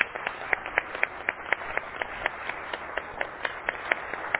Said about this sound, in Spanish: Las felicito, la verdad, por todo el trabajo que han venido realizando y les pediría un aplauso para terminar la mesa.